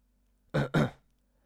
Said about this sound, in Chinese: 他站起来清了清嗓子。